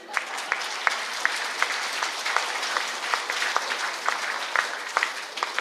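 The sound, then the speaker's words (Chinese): A crowd applauds steadily, a dense wash of many hands clapping at a fairly even level, with a few sharper individual claps standing out at irregular moments. No one speaks over it. “这掌声来自男人还是女人？”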